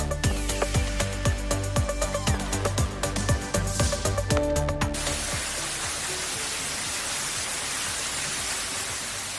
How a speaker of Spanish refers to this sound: Así, en cascada, es como caía el agua a la planta baja del hospital de Segovia. Las fuertes lluvias han provocado la rotura de una de las tuberías que terminó en la inundación del pasillo de la planta cero, donde se encuentran los vestuarios